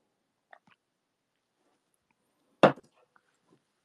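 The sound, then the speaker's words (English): Someone drinking water: a single loud gulp in an otherwise quiet moment, surrounded by a few soft, wet mouth clicks before and after. No one talks. “I just drank some water.”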